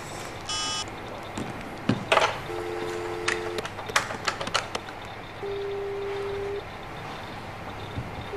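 A short electronic beep, then a flurry of keypad clicks as a number is dialed from an office phone, followed by steady low ringing tones repeating about a second each with pauses, fairly quiet.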